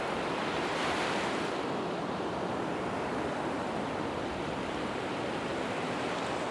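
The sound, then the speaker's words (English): Sea waves wash onto the shore in a steady, broad roar, with a louder surge early on, continuous with no voices present. “I wanted to describe the sea for you, but every time I face this blue, astonishing vastness, I can't find the words.”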